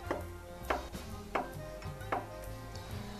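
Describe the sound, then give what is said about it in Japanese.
A knife slices one cod roe (tarako) into rounds about 5 mm apart on a cutting board, a handful of soft taps spaced about half a second apart over a quiet background, with no talking. “まずはじめにたらこを小さくカットします。で、そうですね、輪切り、たらこ1本を輪切りにします。”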